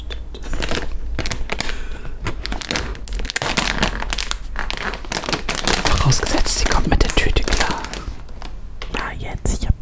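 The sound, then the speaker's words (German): A plastic bag is opened in a studio with a dense, continuous crinkling and crackling that runs throughout, broken by sharper rustling bursts. Soft whispering seems to sit underneath. “Aber wir haben ja jetzt eine Tüte da noch liegen.”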